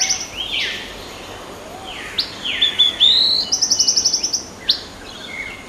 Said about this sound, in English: And then there's a song from one of Australia's coolest birds, the yellow-breasted boatbill.